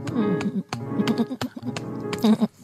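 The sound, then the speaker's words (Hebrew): A little sheep bleats several times in short, wavering cries, interrupted by sharp hiccup-like catches, fairly loud with no talking. “הכבשה הפסיקה לשהק.”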